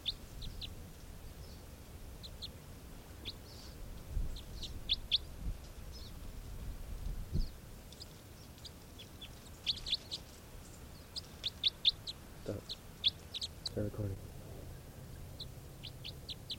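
A recorded bird call plays back as a decoy: short, high chirps repeated in loose bursts, fairly soft, over a low steady background rumble, with no one speaking.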